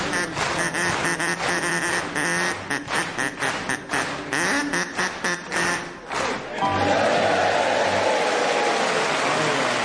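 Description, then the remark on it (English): A crowd claps in a steady rhythm along with a bright, tuneful melody of Old MacDonald Had a Farm, then the beat gives way to a dense wash of applause and cheering. “And of course the audience clapping along very nicely.”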